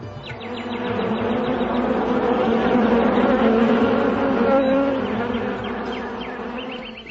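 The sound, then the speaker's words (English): A dense swarm of bees hums steadily and continuously, a thick layered drone that swells slightly in the middle, with faint high chirps flickering at the start and end. “In the trees and green plants full of flowers and leaves, pleasing to the eyes, birds like cuckoos and swarms of bees began chanting with sweet voices for the sake of the demigods.”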